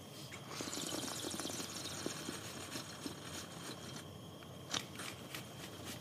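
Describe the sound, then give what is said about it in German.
A knife quickly chopping an onion, done with a mouthful of water as an onion-cutting trick: a series of crisp, irregular cutting clicks and crunches, one sharper than the rest, over a steady hiss of background noise, with no talking. “schneidet gerade die Zwiebel und zwar ziemlich galant und hat original einfach einen Riesenschluck Wasser im Mund.”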